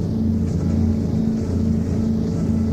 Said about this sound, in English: Nothing has more curative power than the sound of two huge fuel-sucking engines. I come around that breakwater, blast out of the marina.